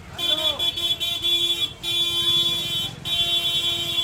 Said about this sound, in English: In Ahmedabad's busiest market, bicycles and rickshaws fight for space among vendors hawking everything from dried figs to balloons.